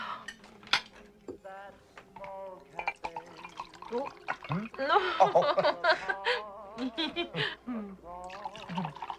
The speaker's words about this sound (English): Let me pour you some wine.